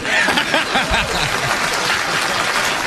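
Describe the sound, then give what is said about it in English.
Steady applause from a crowd, a dense wash of clapping hands holding at a fairly loud, even level throughout, with a faint murmur of voices mixed in. “Please clap.”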